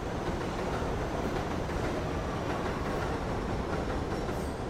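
An elevated train rumbles past a brick building, a loud, steady roar of wheels and rail noise that fills the whole stretch with dense mechanical clatter and no voices.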